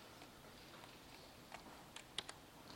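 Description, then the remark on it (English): A few quiet, sharp computer keyboard clicks tap out irregularly while entering spreadsheet formulas, with faint key presses bunched near the end over a low background hiss. No one speaks. “If you don't want to keep typing, and if you've done it once, use what's called templating.”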